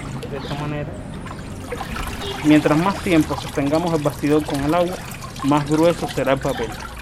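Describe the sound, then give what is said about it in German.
Watery sloshing and trickling as a paper-making frame is dipped into a tank of paper pulp to beat the pulp further, with a person talking over most of it. “Je länger wir den Rahmen im Wasser haben, desto dicker wird das Papier.”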